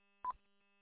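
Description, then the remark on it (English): A single short electronic beep from a timer alarm, a brief tonal chirp that cuts off quickly, heard alone against a faint steady hum with no one talking. “Yeah, my timer was starting to go off there.”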